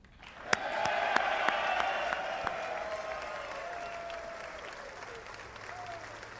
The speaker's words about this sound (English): Everyone but the Democrats are standing and clapping.